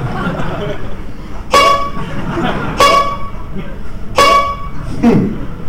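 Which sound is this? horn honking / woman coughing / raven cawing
horn honking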